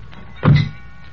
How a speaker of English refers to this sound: Okay, heave it in. Slam the doors.